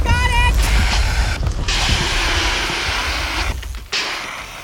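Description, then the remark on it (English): A leaf blower's pull-start combustion engine, yanked by its cord with the choke forgotten and too much fuel, sputters roughly and fails to catch, with a loud, rumbling mechanical clatter that cuts out briefly in places before dying off. “I'll just yank on the cord here. The choke. I forgot the choke. Too much fuel.”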